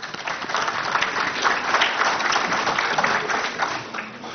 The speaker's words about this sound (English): We also want to just thank all of you here in the community, because without you, our businesses are not successful, and we're not successful as a chamber, so give yourselves a big round of applause for coming out this evening.